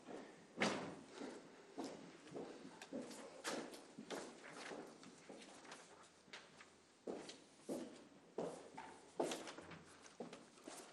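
Steady footsteps of an SP politician walking across a hard floor to the microphone during a debate, at an unhurried pace, each step a crisp tap, moderately loud, with a quiet hum underneath and no talking.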